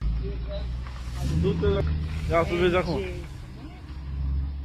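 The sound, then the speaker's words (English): The deep engine of a Mercedes C63 rumbles steadily throughout as it is pulled out for a test drive at a car wash, swelling slightly near the end, while people talk loudly over it in the middle. “Someone's got a fucking C63 Mercedes and they go to pull it out on a test drive and a fan hits it, bro.”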